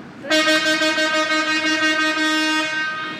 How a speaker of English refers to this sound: I can hear some of the heavy truck traffic that you're talking about. Yeah, it's basically the only thing you can hear at this point. This is Third Avenue, and above, directly above Third Avenue, is the Brooklyn Queens Expressway.